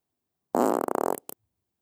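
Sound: fart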